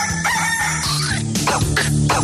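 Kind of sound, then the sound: bird, rooster crowing sound effect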